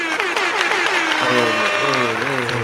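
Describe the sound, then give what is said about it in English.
An applause sound effect: a burst of steady, loud applause with dense continuous clapping throughout while a voice talks or calls out over it. “You got to get the applause in there”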